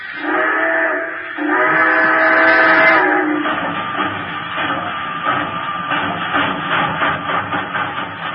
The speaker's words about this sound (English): You are at Elkhart, Indiana. The train has just pulled out.